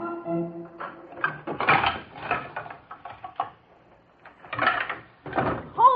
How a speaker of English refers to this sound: The noise? Oh, they're just moving a piano up to the frog's room. And what does that frog need with a piano? He wants to practice singing for the big amateur show tonight.